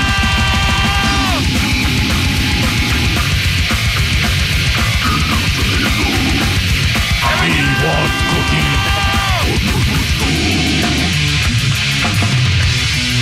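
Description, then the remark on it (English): Loud heavy metal music plays nonstop, a dense wall of distorted guitar and rapid pounding drums with bending, wailing tones and harsh yelled vocals mixed in, with no talking. “Terrible music.”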